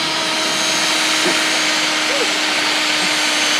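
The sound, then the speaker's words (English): A power drill drilling a hole runs continuously, a loud, steady motor whine with a constant hum that does not let up for the whole stretch. “Let's drill the hole first.”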